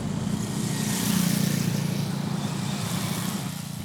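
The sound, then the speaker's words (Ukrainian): A car's engine hums steadily with a continuous wash of road noise, loud and unbroken for the whole stretch, riding in a car driving past the village of Urych in the Skole district, beside the Tustan fortress reserve. No one speaks. “Зараз Тустань – це державний історико-культурний заповідник, який стоїть впритул до села Урич у Сколівському районі, повз яке ми зараз, власне, і їдемо.”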